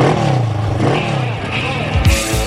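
A motorcycle engine revs loudly, its pitch rising and falling through a steady, throaty roar, with a sharper burst of revving near the end.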